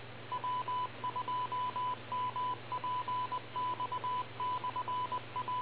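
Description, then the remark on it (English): A telephone rings with a thin electronic trill, short beeping bursts repeating steadily in quick groups, heard over a narrow, tinny line with a low steady hum beneath and no talking. “Oh, there goes the phone.”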